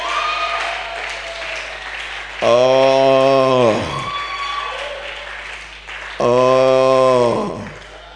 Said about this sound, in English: Oh, somebody must be clapping and shouting aloud.